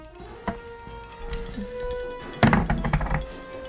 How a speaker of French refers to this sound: Votre résistance à la frayeur va dépendre de l'un de vos lancers de dés. Alors voici un dé que j'ai sculpté moi-même dans l'écorce d'un arbre mourant de la porte de Clignancourt. Nous allons déterminer votre habileté.